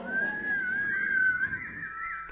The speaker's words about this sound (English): He loves to whistle and call things back. Maybe I have a lousy whistler because the whistle is needed here. I need some help with the whistle.